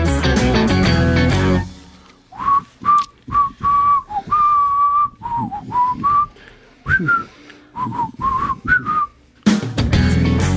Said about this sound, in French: Et oui, siffler quelques notes parce que non, moi je ne suis pas un grand chanteur, je ne chante pas